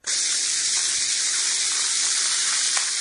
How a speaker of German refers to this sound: Man kann sie in ein Glas Wasser geben und dabei zusehen, wie sie sich, oh Wunder, schäumend in eine rosa Brause verwandelt.